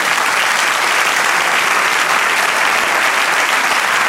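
An audience applauds steadily at a church service, giving applause to the Lord: a dense, even wash of many hands clapping at a constant loud level for the full four seconds, with no voices standing out.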